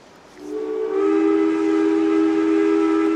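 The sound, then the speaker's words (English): A loud, sustained steam train whistle sounds at a train station in Washington, D.C., in 1881, rising in at the start and holding a steady, reedy tone for several seconds with a faint background rumble. “On July 2nd, 1881, President James Garfield was about to board a train in Washington, D.C., when out of nowhere, he's shot twice.”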